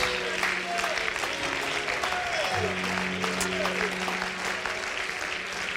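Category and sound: crowd, audience clapping hands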